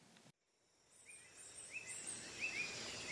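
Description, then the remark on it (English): A tiny iridescent yellow bird chirps inches from a window in the morning, a series of short, high, bright notes that repeat every half second or so, soft against a faint hiss, with no voices. “A tiny iridescent yellow bird chirps inches from my window.”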